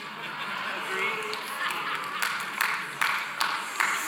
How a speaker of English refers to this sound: Like, that's him clapping, by the way. Like, raise your hand if you agree with that unpopular opinion.